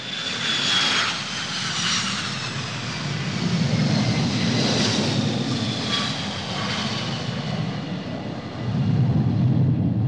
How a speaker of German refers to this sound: Ende Oktober 1993, wenige Wochen vor dem ersten Gerichtstag, landet ein Flugzeug aus Teheran am Kölner Flughafen.